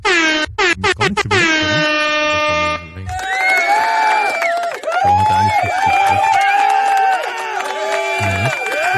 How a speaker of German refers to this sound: Das Applaus ist viel zu lang bei dem Bettdarm.